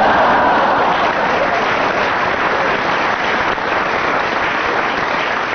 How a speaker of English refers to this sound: On general aggregate of applause there, Barry Cryer is slightly ahead.